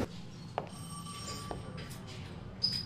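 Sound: phone ringing unanswered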